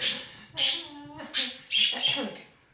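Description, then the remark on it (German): A pet bird squawks and chirps in several sharp, bright bursts, with shorter tweets in between, over a faint background of human speech. “So, jetzt geht's los, jetzt podcastet der mit.”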